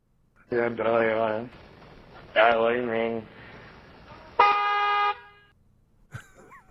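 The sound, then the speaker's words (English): A man talks in short bursts while car horns honk, including one loud, sustained blast near the end and another brief toot after it. “Here is male speech with horns honking in the background.”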